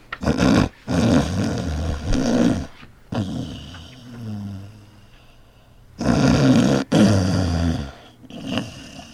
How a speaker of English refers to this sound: … fell asleep on me. Here in the studio, he started snoring.